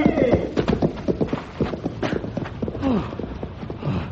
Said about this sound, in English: Oh, they scared my horse away.